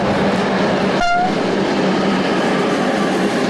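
A train rolls past on a railway line near the ruins of the old brickworks in Subotica, with a loud, steady rumbling roar. Early on, a brief high-pitched tonal squeal rises and fades, and there is no talking.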